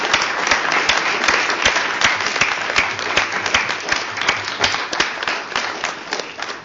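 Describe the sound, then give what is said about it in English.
A crowd applauds steadily, many hands clapping in a dense, continuous patter that stays fairly loud and even for several seconds, with no one speaking over it. “Let us applause the contribution”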